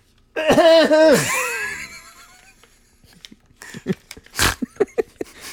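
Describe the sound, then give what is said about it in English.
A loud, strained wheezing gasp, high and whistling, fades into choking, followed by a run of short sputtering coughs and gulps as someone chokes on their own saliva. “Yeah, I just, you know, I get excited and the spit gets in my throat and I choke on it.”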